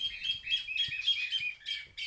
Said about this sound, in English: Hear that bird? It's called a chilalo. It's unique to northern Peru, and village elders watch this bird closely to understand what weather might be coming.